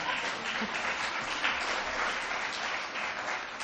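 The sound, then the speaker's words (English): An audience in Buffalo breaks into steady applause, a dense wash of many hands clapping at an even, moderately loud level for several seconds with no voices, applauding Niagara District Council Member David Rivera for providing the dollar for the building that became the joint headquarters of the Buffalo Police and Fire Departments. “Yeah, you can clap on that.”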